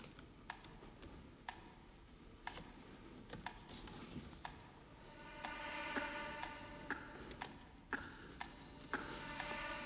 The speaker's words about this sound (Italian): Anche il flauto con i soffi disegna un tempo, anche i colpi di lingua del clarinetto e anche questo.